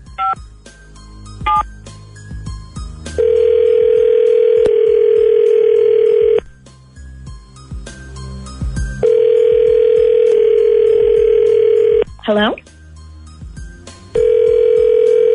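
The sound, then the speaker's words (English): A series of short, beeping telephone keypad tones punch out a dialed number, broken up by long stretches of a steady, loud dial tone humming at a constant pitch. “Do not misdial, by the way. We have to start the whole thing over.”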